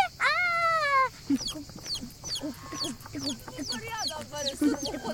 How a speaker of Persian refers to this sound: جوجه ببین چقدر نازه.